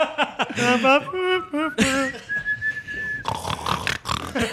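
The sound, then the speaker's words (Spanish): A voice imitates a man's snoring, likened to a trío song, with warbling, pitch-sliding vocal tones, a thin sustained whistle, then a raspy, breathy rasp, with a little chuckling mixed in. “Ronca en como una canción de trío, aparte.”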